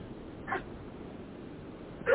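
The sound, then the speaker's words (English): A dog named Amadeus barks twice in the background, a short bark and then another about a second and a half later, both fairly faint over a low steady hum. “There's my dog barking in the background.”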